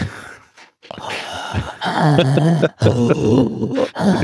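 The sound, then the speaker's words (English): Heavy, labored breathing with throaty groans and grunts, snorting like a pug, fairly loud, continuing in uneven bursts with brief pauses between breaths. “Sounds like a pug or something.”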